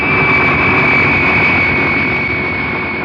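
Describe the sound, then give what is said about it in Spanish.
A loud, steady roar of a huge international jet airliner's engines at takeoff thrust as it takes off from a runway at Orly airport at night, with a sustained high whine riding over a broad rumbling wash, continuous throughout. “Minutos más tarde, el gigantesco jet internacional despega de una de las pistas del aeropuerto de Orly.”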